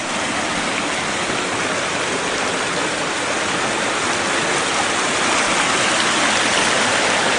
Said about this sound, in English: There's the waterfall.